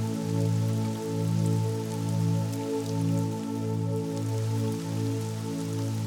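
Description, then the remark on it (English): A steady, soft hiss of a stream of spraying water runs throughout, beneath a low, sustained musical drone whose tones shift gently every second or so. “As you approach this stream, you feel the gentle mist of the spraying water.”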